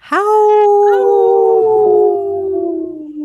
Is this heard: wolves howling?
yes